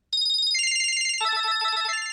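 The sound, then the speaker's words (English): A cell phone ringtone plays loud, a bright electronic melody of rapid repeating beeps that steps through different pitches, with no one speaking. “Most of them, though, probably don't sound much like something you'd want to listen to on the radio.”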